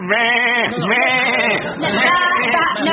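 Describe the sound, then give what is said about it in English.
Loud, drawn-out sheep-like bleats fill the whole three seconds in a wavering, continuous run, apparently voiced by people imitating the animal rather than a real flock. “Typical, you Germans are a bunch of sheep. Actually, it's ba-ba.”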